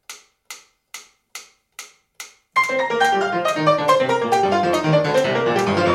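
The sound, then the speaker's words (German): A metronome clicks six times in a quick, even beat at the very fast tempo marked for Beethoven's Hammerklavier Sonata, sharp and dry, before loud, rapid piano playing of the sonata bursts in and carries on to the end. “Die Metronomangaben sind nämlich wahnsinnig schnell.”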